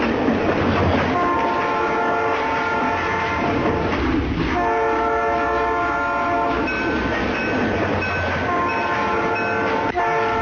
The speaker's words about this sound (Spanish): No, ese no es el tren Grand Velo de Francia, no es ni el tren bala. No es tren bala japonés, no, es un ferrocarril gubernamental.